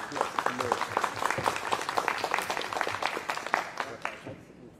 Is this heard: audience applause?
yes